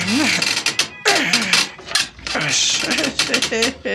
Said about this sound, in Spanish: Jato se pierde en el corredor y el doctor Quiro empuja la gran puerta.